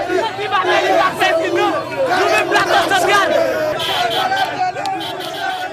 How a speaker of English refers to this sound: And his followers are cheering not just his pop music, but his politics.